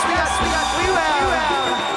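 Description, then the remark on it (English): A large crowd at an evening concert near Fort Collins, Colorado, under a clear sky, roars and cheers continuously, a dense wash of many voices shouting and whooping at steady, loud volume with no pauses. “And can I hear a little bit more noise from the crowd just to make sure we got”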